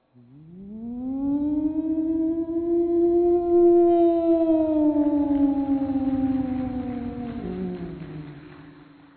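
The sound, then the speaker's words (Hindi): A voice imitates the siren of a big factory: one long, loud wail that climbs in pitch, holds steady for several seconds, then sags and fades near the end. “बड़ा फैक्ट्री में सायरन बजता है, सायरन का आवाज।”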